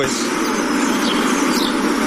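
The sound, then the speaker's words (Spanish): A few faint bird chirps rise briefly above a steady wash of city street noise and everyday traffic in Rostov, Russia, with no talking. “Horas después se escuchaban pajaritos.”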